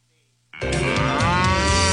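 A cow lets out one long, loud moo, starting abruptly after a brief quiet moment and holding steady to the end, with no talking.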